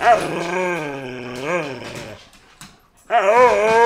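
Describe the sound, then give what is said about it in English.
A female dog growls and whimpers in long, wavering, moaning bursts: one drawn-out stretch that rises and falls in pitch, a short pause, then another loud bout starting up. “She literally is never quiet.”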